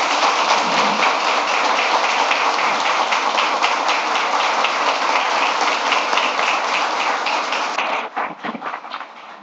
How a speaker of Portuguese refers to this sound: Salve de palmas para ele.